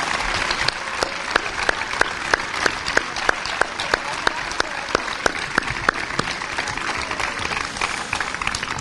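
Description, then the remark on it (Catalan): A crowd applauds the pubilles and pubilletes representing Roquetes at the town's festa major, clapping steadily for several seconds, a dense wash of clapping with a few sharper, louder claps standing out in a loose rhythm, full throughout. “i per tant crec que es mereixen un fort aplaudiment, no només per la feina que faran, també perquè la disfruten, però pel que representen per a la nostra ciutat.”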